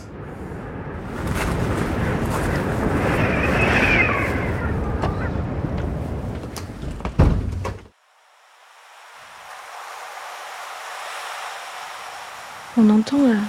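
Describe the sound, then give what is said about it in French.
Steady roaring wash of ocean waves and wind just behind a dune, loud and close for several seconds, then suddenly muffled as heard from inside a house; a voice begins at the very end. “On entend les vagues et le vent, on est juste derrière la dune, donc on est très très proche du terrain et on se laisse bercer assez facilement par ce vent et par les vagues.”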